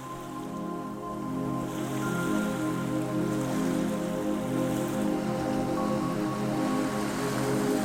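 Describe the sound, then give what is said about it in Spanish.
Gentle sea waves wash onto a beach a few metres from a campfire in a soft, steady hiss that stays at an even level throughout, with a faint low hum underneath and no voices. “El mar, a escasos metros, se oye suave.”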